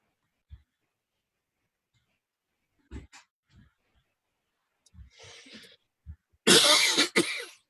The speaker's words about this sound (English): Who's coughing? That's me, because I have the coronavirus.